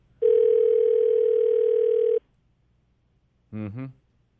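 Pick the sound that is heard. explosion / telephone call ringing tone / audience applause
telephone call ringing tone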